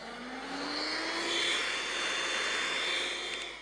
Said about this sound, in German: In Philipp brummt ein Motor.